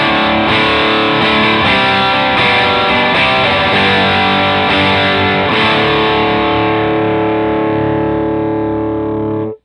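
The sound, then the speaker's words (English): Loud distorted electric guitar through a modified distortion pedal set to its LED-clipping circuit, with the pedal's knobs at 12 o'clock: a run of chords strummed in a steady rhythm with thick, buzzy overdrive, the last chord ringing out before stopping abruptly. “Next, the modification has been finished, so we have three different sounds to hear. The first of which will be the LED circuit.”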